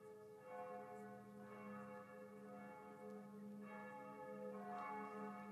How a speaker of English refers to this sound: Then, from up above and far away, down the tunnel they had so lately travelled, was borne to their ears in a faint musical hum, the sound of distant bells ringing, a joyous and clangorous peal.